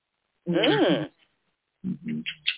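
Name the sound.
pet bird vocalizing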